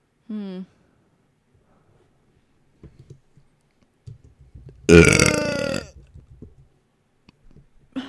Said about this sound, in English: What causes burping? You. You drinking that beer.